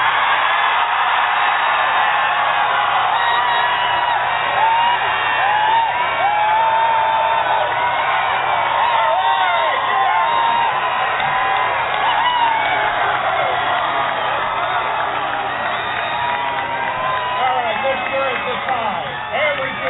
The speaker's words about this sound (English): I test for the loudest cheering team. So when I count to three, each team gives the loudest cheer, and I'll tell you who the winner is later, okay? One, two, three!